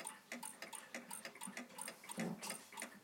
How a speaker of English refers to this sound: Sorry about the one ticking next to it. It's very loud.